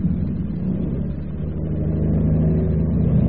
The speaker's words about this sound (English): Fasten your seatbelt. We're going to take off now. Yes.